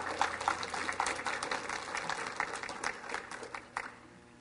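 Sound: audience hand clapping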